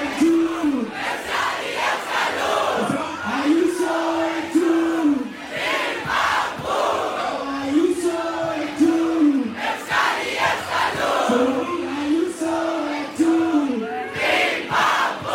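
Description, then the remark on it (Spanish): A large concert crowd chants "Ayuso!" in unison as a battle cry aimed at Ayuso, a loud rhythmic rising-and-falling phrase repeated about four times over a constant roar of cheering. “El gritito de guerra ya, o sea, se le ha hecho un boomerang, Tremendo, tremendo, le está volviendo con fuerza, Ayuso, ese mensaje, esa invención que tuvo en su día”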